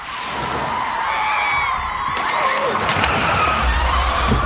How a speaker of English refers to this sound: Todd opens his eyes and brakes. The car skids to a stop before Quinn, Logan, and Michael.